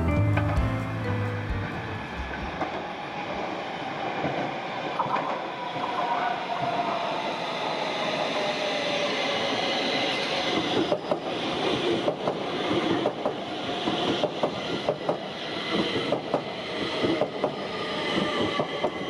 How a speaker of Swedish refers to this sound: Ljudet när tunnelbanan anländer till perrongen, till stationen. Ja, det där ljudet tror jag ni alla känner igen och har upplevt många, många gånger och kanske fortfarande upplever när man tar sig fram i Stockholms stad med tunnelbanan.